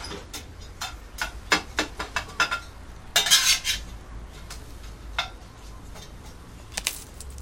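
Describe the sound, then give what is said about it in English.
Kitchen clatter in a tiny kitchen as a metal utensil taps and scrapes against a frying pan in quick, irregular clinks, with a brief louder scraping burst midway, then scattered lighter taps. No one speaks. “Darren exhales smoke, and Danny returns his attention to the frying pan.”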